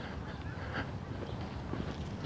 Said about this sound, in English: I don't see geese, but I hear them.